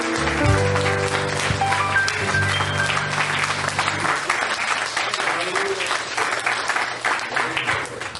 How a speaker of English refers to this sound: Let's give him a hand clap of praise tonight. He's worthy of it.